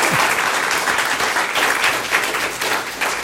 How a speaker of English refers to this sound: Big round of applause.